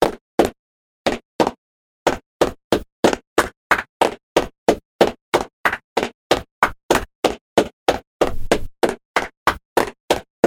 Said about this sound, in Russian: Вот, значит, что делаешь ты? Сейчас хлопать нужно таким образом. Раз, два, три, раз, два, три, раз, три, раз.